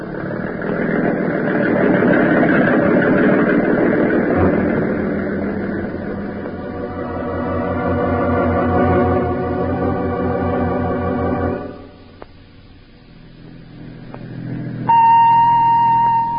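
A boat motor is started and roars and churns steadily as the boat heads out to an island, its pitch rising and falling as it runs, then drops away to a low rumble before a short, steady electronic tone sounds at the end.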